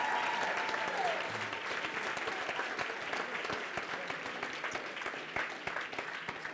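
A crowd applauds steadily, dense overlapping claps forming a loud, sustained wash that tapers slightly toward the end.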